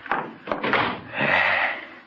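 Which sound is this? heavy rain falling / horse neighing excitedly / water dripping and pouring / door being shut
door being shut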